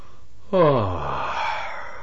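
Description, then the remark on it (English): A breathy vocal "huh" that slides downward in pitch into a drawn-out, airy "arh", delivered once after a brief silence with no other talk. “And just to end this section of the audio with a very inventive sound, here's an H-U-H with an A-R-H following it.”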